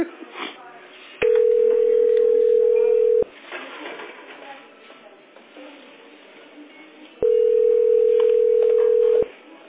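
A steady telephone line tone while on hold in a call queue at position 23, heard over a narrow phone connection: two long, even beeps about two seconds each, separated by a pause filled with faint murmuring background noise.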